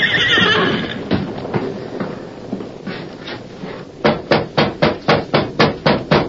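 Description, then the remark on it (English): A nervous horse named Silver lets out a loud, agitated whinny that trails off, followed by snorting and shuffling, then a steady run of about ten sharp, evenly spaced hoof clops. “Why are you so nervous? Take it easy, Silver.”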